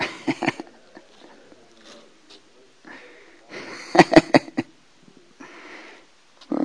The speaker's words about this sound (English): It's good to hear the pages turning on a Sunday morning.